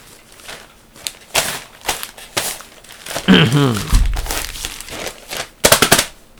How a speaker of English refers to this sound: That's me rustling the newspaper and making lots of noise. I like doing that sometimes. It's like special effects, you know, it's like background noise. It's flavor.